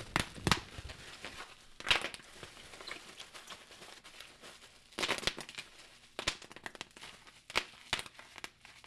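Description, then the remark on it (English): Bubble wrap around an officially licensed PlayStation trophy is unwrapped and crinkled in irregular rustling handling, broken by several sharp, louder crackling bursts, with no one speaking. “Bubble wrap.”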